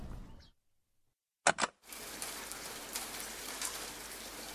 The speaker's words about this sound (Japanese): 6月10日、探検開始から3日目、天候は雨。運よく洞窟を見つけたため濡れネズミにならずに済んでいる。